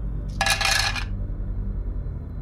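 A dense burst of many dice rolled together during a tabletop role-playing game, rattling and clattering for under a second, bright, then fading to a low background hum.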